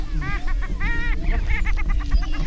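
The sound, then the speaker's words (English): Male prairie chickens calling on a booming ground at first light, before sunrise: a busy chorus of overlapping cackling, whooping cries repeating rapidly and steadily over a low, continuous outdoor rumble. “It's hard to make out the prairie chickens, but you can already hear them.”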